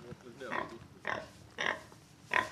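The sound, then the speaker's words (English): A pig on a farm grunts four times in short, evenly spaced bursts, each a rough nasal oink, with a faint background hum between calls. “Good morning, Mr. Pig. Yeah, we've got some pigs here.”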